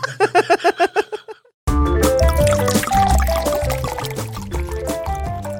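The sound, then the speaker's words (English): Sparkling Moscato wine glugs from a bottle into a glass in quick, rhythmic bursts for a second or so, then stops and upbeat music abruptly takes over. “I've cracked open a bottle of Moscato.”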